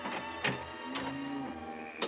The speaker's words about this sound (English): But I left the door open a crack, and a few minutes later heard the street door open.